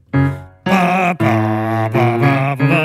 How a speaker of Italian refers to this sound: E che suoni, ci vuole uno strumento che suoni anche un po' in basso, insomma, morale. È il trombone. E cosa ci fa qua il trombone? È un assolo.